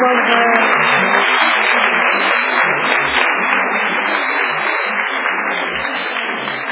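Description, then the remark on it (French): Sustained applause from an audience for a speaker after the last question, a dense steady wash of many hands clapping at once, loud throughout and tapering slightly toward the end, with no voices standing out. “Je pense qu'on peut l'applaudir pour le moment.”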